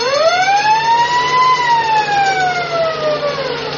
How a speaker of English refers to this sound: That sounds like a fire truck. There must be a fire.